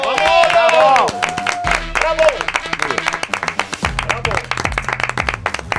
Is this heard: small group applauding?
yes